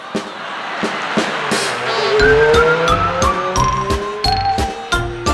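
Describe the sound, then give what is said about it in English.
A car packed with clowns: its engine roars while tires squeal in long, shrill, wavering screeches, punctuated by repeated sharp knocks over a loud, steady rush of noise. “How many clowns can they fit in that car?”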